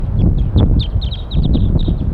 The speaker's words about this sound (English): A flock is calling from the treetops. And more birds are coming in. They're all up in the top of the pine tree above where we've got the net set up now. And basically 3-5 is calling a lot in response. I mean 4-3. Wild birds. All wild birds.